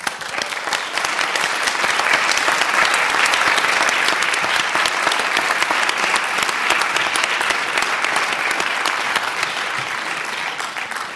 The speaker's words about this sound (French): Et le 27e prix des auditeurs du Masque et la Plume, que je vous demande évidemment d'applaudir, c'est François Ozon pour son film Franz.